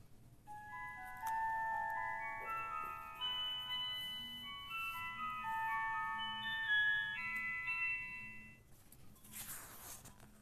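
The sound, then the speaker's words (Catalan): A celesta plays a gentle melody of bright, glassy, bell-like notes that ring and overlap, over a soft, low sustained accompaniment, with no voices. “Aquest instrument, com fet de vidre, és la celesta.”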